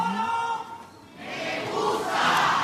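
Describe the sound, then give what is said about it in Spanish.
An audience breaks into applause, the dense clapping swelling after a brief lull and building to a loud, steady roar of many hands and crowd noise, as the public applauds a stage performance. “El aplauso y el reconocimiento del público.”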